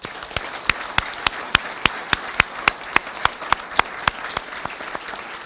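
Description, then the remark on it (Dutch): An audience applauds the municipal civil service staff steadily, a dense wash of clapping, with one set of sharp, loud claps standing out in a quick, even rhythm throughout. “En graag een applaus voor het ambtelijk apparaat.”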